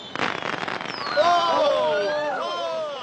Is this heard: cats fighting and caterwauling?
no